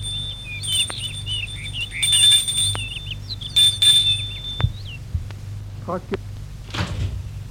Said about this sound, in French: Il sonne à la porte.